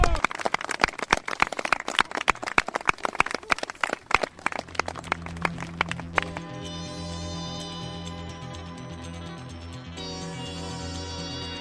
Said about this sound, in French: Et bien voilà, c'était les enfants d'Allègre qui vous ont fait un petit entre-soir martien. Voilà. Merci, bravo. On va les applaudir. Bravo.